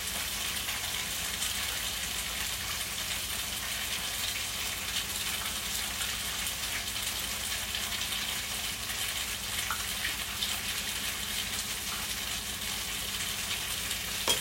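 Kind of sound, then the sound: food or drink, food sizzling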